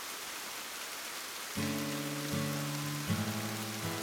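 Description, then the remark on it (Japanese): Steady rain hisses throughout. Partway in, soft sustained musical chords join and shift every second or so over the continuing downpour. “顔を上げると雨が降っていた。”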